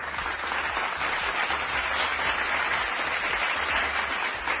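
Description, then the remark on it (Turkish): A crowd applauds steadily, a dense wash of many hands clapping at a constant loudness from start to finish with no voices or pauses. “Biz Fatih'in azmine hayranız ve alkışlıyoruz efendim.”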